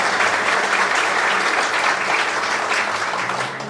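A crowd applauds steadily, a dense wash of many hands clapping at once that holds strong throughout before easing slightly at the very end.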